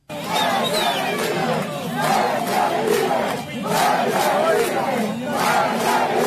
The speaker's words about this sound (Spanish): Con gritos de patria y vida, libertad y no tenemos miedo, el 11 de julio de 2021, el pueblo cubano de manera pacífica y masiva decidió protestar contra la gestión gubernamental.